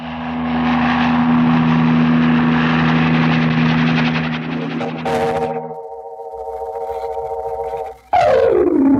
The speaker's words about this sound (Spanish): Volando en el veloz helicóptero, impulsado por el supercombustible RM,